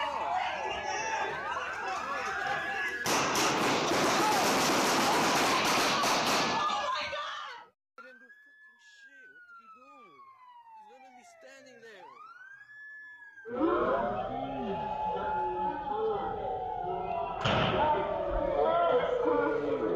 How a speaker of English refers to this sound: A warning, this does contain violent gunfire.